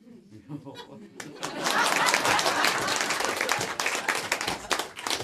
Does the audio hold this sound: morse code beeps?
no